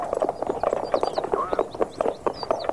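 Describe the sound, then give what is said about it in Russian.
Steady clip-clop of horse hooves on a hard road, a quick repeating rhythm of sharp knocks, as a horse-drawn carriage rolls along driven by a woman who has sent the coachman away to handle the horses herself, with faint creaks mixed in. “А ну, кучер, пошел вон. Я сама с лошадьми управлюсь.”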